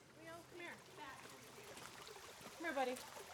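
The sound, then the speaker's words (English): A small stream at Starved Rock State Park, an hour north of Bloomington-Normal, trickles and burbles steadily, a continuous watery hiss, with faint voices drifting in and out over the flow. “enjoys Starved Rock State Park like many visitors, jumping across small streams and gazing up at monstrous rocks.”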